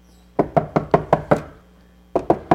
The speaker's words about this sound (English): You guys get that, right? He's knocking on the door at midnight. Leave me alone.